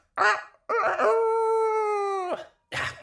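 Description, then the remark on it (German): A rooster crows loudly: two short rising syllables, then a long, steady, high-pitched note that drops off at the end, followed by a brief harsh burst. “Nun schrei ich aus vollem Hals, solang ich kann.”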